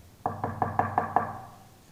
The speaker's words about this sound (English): What are you knocking on wood for? Checking for termites or something?